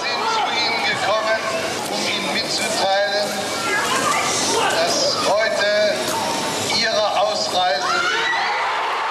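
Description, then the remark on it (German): A large crowd, who had been shouting "Freiheit", roars and cheers in a frenzy as Herr Genscher speaks his famous sentence, many voices shouting and whooping over one another in a loud, unbroken wall of sound that holds steady for the whole stretch. “Das Ende des Satzes geht unter in frenetischem Jubel.”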